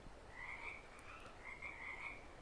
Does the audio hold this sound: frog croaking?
yes